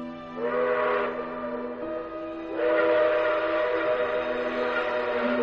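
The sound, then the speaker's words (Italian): A steam train whistle shrieks in two long blasts, the second held to the end, over the steady low rumble and clatter of a train arriving at Baden. “Il mio treno era appena arrivato a Baden.”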